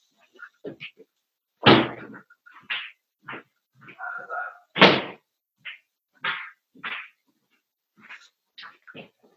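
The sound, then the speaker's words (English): A window being closed, with two sharp, loud thuds and scattered shorter knocks and rattles, while a dog's faint whimpers and yelps come and go. “One is, just give me a second, let me close the window so that the dog's noises cut out.”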